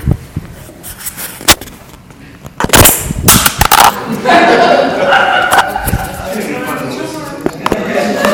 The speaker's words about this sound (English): You know, so when you hear somebody knock the microphone off.